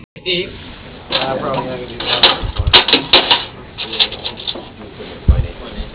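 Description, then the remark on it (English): A run of telephone keypad presses spelling out a person's last name in a company phone directory: a quick, irregular series of short beeps and clicks, after a brief voice at the start. “Using the keys on your telephone, please spell the last name of the person.”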